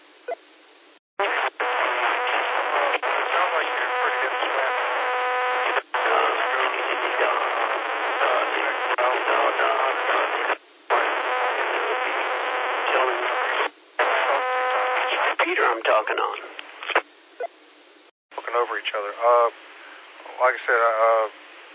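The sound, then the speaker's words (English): A radio repeater's call sign identification comes through as a buzzy, narrow-band transmission with warbling voice-like tones and a few brief dropouts. It runs loud and steady for about twenty seconds with no clear words. “It just tells a person what that particular repeater is. And all of them have their own call sign.”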